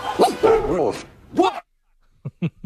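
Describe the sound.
A dog barks three times in quick succession, short and sharp, after a brief pause that follows an earlier stretch of voiced, whining sound.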